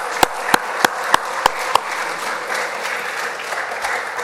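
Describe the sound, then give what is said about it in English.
A round of applause at a church service: several sharp, evenly spaced claps at the start, then a steady wash of many hands clapping that carries on at a moderate level. “And I want to give them a big hand, a big round of applause.”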